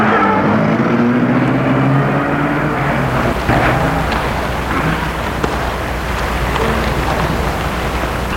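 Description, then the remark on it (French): A black car's engine roars as a man gets in, its pitch climbing and wavering early on before settling into a steady, loud rumble as the car drives off. “Il sort de ses gels et entre dans la voiture.”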